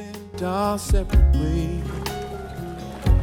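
A rowboat laden with onions moves along a river, with a few heavy, dull oar strokes and water sloshing, over a steady tonal hum in the background.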